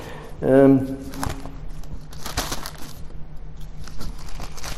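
Thin paper pages of a Bible flip and rustle as it is turned to John 12, a run of soft crinkly crackles over several seconds, with a brief hummed vocal sound near the start.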